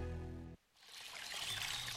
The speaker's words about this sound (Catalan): Així sona una bona hidratació. Així sona l'aigua del Parc Natural del Montseny. I des del 1976, Font Agudes protegeix la seva puresa perquè tu en gaudeixis cada dia.